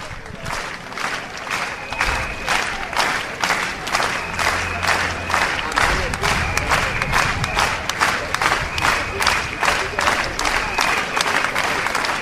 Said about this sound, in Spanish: Lo único que se oyó al personal participante fueron los aplausos a ritmo de apoyo al Hospital Pejino. Sonaban así.